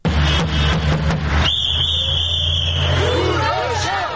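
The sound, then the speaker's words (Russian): A loud, noisy street protest in Tbilisi, Georgia, by about fifty human rights activists and hepatitis C patients picketing the offices of pharmaceutical companies Roche and Merck: rapid drum hits clatter at the start, then a long, steady high-pitched whistle cuts through, followed by voices chanting 'Your stinginess is killing us'. “Под барабанную дробь и свист, скандируя «Ваша скупость убивает нас», около полусотни человек, правозащитников и больных гепатитом С, поочередно пикетировали представительства двух крупных фармакологических компаний «Роше» и «Мерк» в Тбилиси.”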